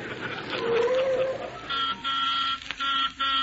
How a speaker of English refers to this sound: Driver, you didn't have to blow the horn.